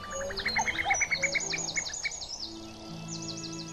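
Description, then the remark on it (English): A female cuckoo's bubbling cry from high in the sky above a fen during courtship, a quick run of liquid repeated notes in the first half, set against a busy background of other birdsong and chirps; no one speaks. “The female doesn't call like a male bird, but makes a strange, seldom heard, bubbling cry.”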